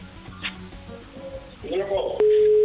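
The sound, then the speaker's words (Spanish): A telephone ringback tone cuts in near the end while calling someone by phone, a loud, steady single-pitched hum that continues unbroken, following a few seconds of muffled voices and handling noise. “Ahí está, dando tono.”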